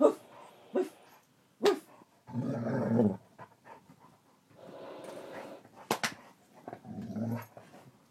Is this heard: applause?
no